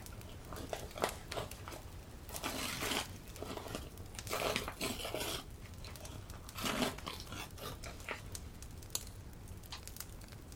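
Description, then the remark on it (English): Rustling, crinkling and tearing of Prussian blue wrapping paper as it and a ribbon are pulled away, with several louder crackly bursts amid steady soft handling noise and no talking. “Under the soft glow of the crackling candle, you pull away the ribbon and the beautiful Prussian blue wrapping paper.”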